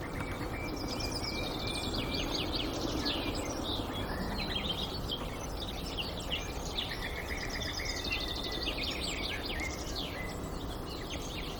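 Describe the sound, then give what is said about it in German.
A bird's sharp clicking contact and alarm call, like two small river pebbles knocked together, repeats among a busy chorus of chirps and warbles over a steady background hiss. Nobody speaks. “Bei uns heißt sie auch die Kieselsteine, weil ihr Kontaktruf und ihr Warnruf klingt wie zwei kleine Flusssteine aneinander geschlagen.”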